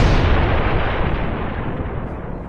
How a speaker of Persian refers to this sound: چند روزی از آغاز جنگ گذشته بود که ناگهان صدای انفجاری مهیب در کوچه پیچید.